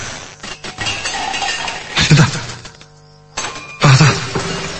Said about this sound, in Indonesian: Terdengar lagi suara, suara yang sama seperti kaleng benang yang jatuh. Memang kali ini terdengar tidak hanya satu, tapi berkali-kali. Seperti kaleng-kaleng itu dibanting dengan sengaja.